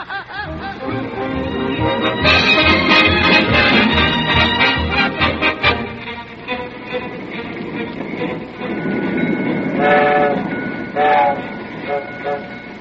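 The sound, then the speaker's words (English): A freight train rolls along the tracks with a steady, heavy rumble and rhythmic clacking of wheels, joined near the end by a couple of wavering, high-pitched whistle tones. “Yeah, and I've been hiding like an ostrich ever since we ditched the car and hopped this rattler.”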